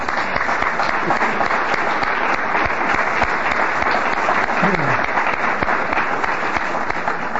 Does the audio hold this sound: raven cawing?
no